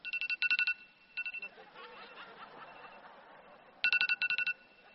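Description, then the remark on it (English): A phone alarm rings in quick bursts of bright, beeping tones during a sermon, signalling that the preacher has preached for 40 minutes. It stops briefly while a crowd chuckles and murmurs, then sounds again loudly. “Like my alarm is ringing now.”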